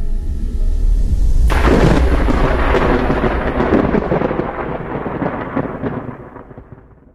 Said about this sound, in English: So where that lightning bolt hits, a mark, that same mark that branches, like the branches of a tree or a nervous system. Lichtenberg figures.